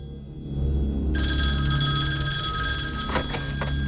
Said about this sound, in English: Realizing it's a red phone on the other side of the room that's ringing, he scrambles across the desk and goes over to it.